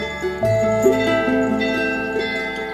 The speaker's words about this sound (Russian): Все 3 связаны как бы в одну группу, чтобы я одной рукой мог бы звонить во все 3 определенным движением руки. Вот так. Зазвонные, они дают трель, дают такой как бы льющийся звук, как ручеек.